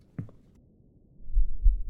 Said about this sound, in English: Is your heart pounding very, very fast? Let me feel your heartbeat with my hand.